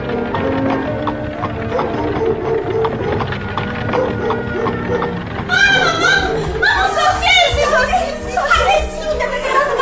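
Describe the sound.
A horse-drawn carriage approaches with steady, rhythmic clip-clopping hooves, clear; partway through, several voices start talking loudly over the continuing hoofbeats.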